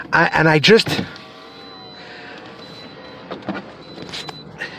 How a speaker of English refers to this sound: it's just that I'm in the car now.